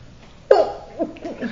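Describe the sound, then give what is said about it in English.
A single sharp sneeze bursts out, followed by a couple of softer breathy sounds as it fades. “Bless you.”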